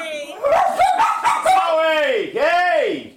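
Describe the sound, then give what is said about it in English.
Dogs, woken by fireworks going off at a baseball stadium up the block, bark and yip in a loud, rapid cluster, then break into drawn-out, high whining howls that rise and fall in pitch. “And the dogs have to put in their 2 cents.”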